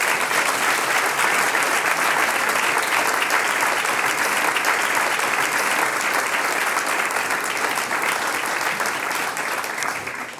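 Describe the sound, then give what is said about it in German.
Sustained applause from a large audience, a dense, steady wash of clapping that holds loud for about ten seconds and eases slightly at the end, with no talking over it. “das ist dein Applaus.”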